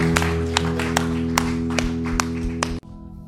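An audience at a worship service claps hands in unison to give God a hand clap, sharp claps on a steady beat about twice per second, over sustained keyboard chords, then everything cuts off abruptly near the end.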